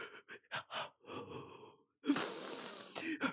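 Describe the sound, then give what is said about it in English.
A voice breathes in a series of short, rough gasps, then lets out a long, loud, drawn-out wheezing breath, an exaggerated deep-breathing routine. “CBT also gives you techniques to better manage how you react to thoughts of death, such as deep breathing.”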